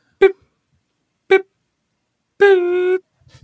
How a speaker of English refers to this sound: Let's get you just making those beep noises, and then we're done. We're gonna play a series of beeps, and then just do the beeps.